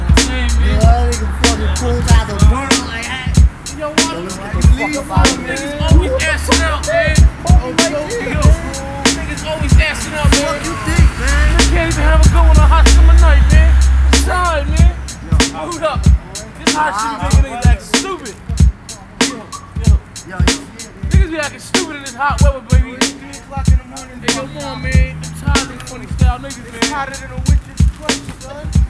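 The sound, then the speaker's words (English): Skateboard wheels roll with a steady low rumble, broken by frequent sharp clacks and snaps of the board hitting pavement, loud throughout. “Hey, yo, yo, it's time to skate.”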